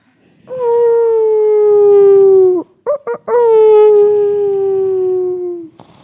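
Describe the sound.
A voice imitates a wolf howl: two long, loud, sustained wavering howls, separated by a few short yelping breaths, the pitch sliding slowly downward.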